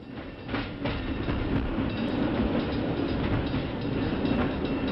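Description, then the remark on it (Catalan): A train arriving at Sant Cugat rolls steadily along the tracks, a loud, continuous rumble with a rhythmic clatter of wheels on rails, with no voices. “arriba el tren a Sant Cugat.”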